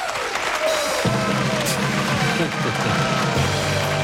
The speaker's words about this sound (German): Ja, hier kommt erstmal Jubel,